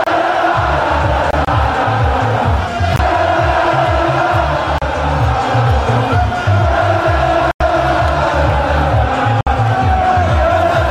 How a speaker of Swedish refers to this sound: Och i Milano lät det så här när fansen följde Milans buss och hyllade tränaren Stefano Pioli.